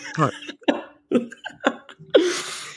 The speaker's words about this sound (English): Oh, there was a cough coming on.